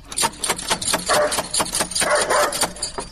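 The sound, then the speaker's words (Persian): A dangerous dog at a house barks loudly and repeatedly in quick bursts, with a couple of longer, drawn-out barks in between. “اوه چی یک سگ خطرناکی داره ای.”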